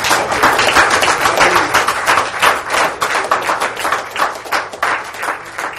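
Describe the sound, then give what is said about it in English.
A church audience applauds the Lord for His Word, many hands clapping in a dense, sustained roar of claps at a fairly loud, even level throughout, with no talking. “Let's give the Lord an applause for His Word.”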